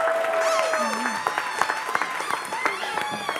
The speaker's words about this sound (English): Yay! Give everybody a round of applause.